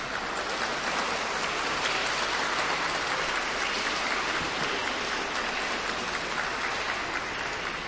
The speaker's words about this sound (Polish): Będzie jeszcze czas, aby wymienić poszczególne miejscowości i parafie, z których przybyliście na nasze dzisiejsze spotkanie, ale tak na dobry początek siebie nawzajem przywitajmy także bardzo gorącymi oklaskami.